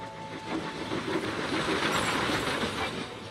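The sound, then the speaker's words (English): A train engine, Gordon, on the Island of Sodor rumbles steadily along the rails with a continuous hissing roar and faint rhythmic clatter of wheels, holding an even loudness throughout, with no voices. “That's a good engine.”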